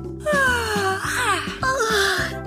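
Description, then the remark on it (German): Two drawn-out, sliding yawns, the first long and falling in pitch, the second shorter, over soft background music, as two characters wake up in their beds in a palace. “erwachen gähnend in ihren Betten im Palast.”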